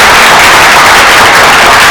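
An audience breaks into steady applause, a loud, dense wash of many hands clapping together for about two seconds with no voices heard over it.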